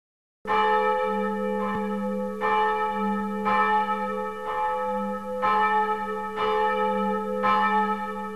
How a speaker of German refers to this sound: Das ist die Glocke Maria. Sie musste nicht mehr neu geweiht werden. Sie kam lediglich dorthin zurück, wo sie lange Zeit ihres nahezu 500-jährigen Lebens verbrachte.